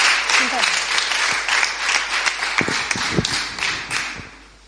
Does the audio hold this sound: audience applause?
yes